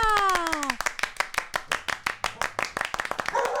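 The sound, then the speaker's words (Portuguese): A falling, sliding tone opens, then a burst of steady, crisp hand clapping follows, quick sharp claps in a brisk rhythm that carries on for a few seconds, welcoming a guest called the Butterfly on a radio show. “Recebam com palmas a Borboleta!”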